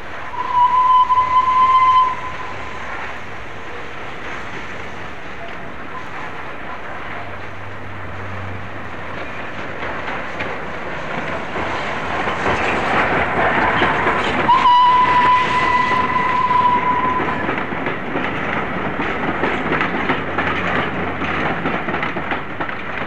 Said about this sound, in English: already it's quite historic to think of a train arriving at Marylebone, steam-hauled all the way from Manchester. But these are the sounds that follow now. Flying Scotsman arriving at Marylebone on the 18th of April 1964.